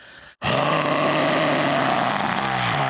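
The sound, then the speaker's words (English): A voice imitates a lion's breath: after a brief pause, a loud, sustained, rough exhaled roar-like huff held for over two seconds. “Then the lion leaned towards the face of the bear and delivered his breath right into the bear's face.”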